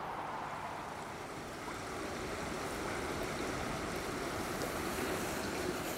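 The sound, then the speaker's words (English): Steady rushing river water flows continuously beneath a bridge, a dense even wash of noise with a slight wind-like hiss and no voices. “And by contrast, we're on the bridge over the river, and it's just so much nicer.”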